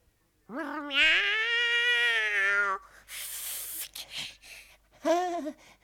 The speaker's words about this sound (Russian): Кошка, это ты?